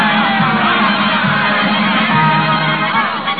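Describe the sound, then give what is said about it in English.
A large circus crowd cheers and shouts continuously, a dense, loud roar of many voices with whoops rising out of it, sustained without a break, cheering an act of trained seals in the circus ring. “Toby's in full costume and makeup, and his painted grin grows broader as he listens to the cheers of the crowd.”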